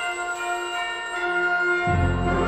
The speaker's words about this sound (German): Doch dann läuten die Weihnachtsglocken.